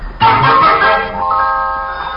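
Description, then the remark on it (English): A telephone rings once with a bright, bell-like metallic tone that starts abruptly, sustains for about two seconds and then fades, with no one talking over it. “The phone.”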